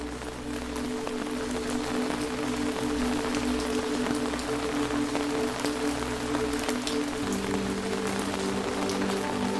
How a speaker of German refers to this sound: Es umhüllt dich sofort das beruhigende Geräusch der Regentropfen, wie sie auf den Schirm prasseln.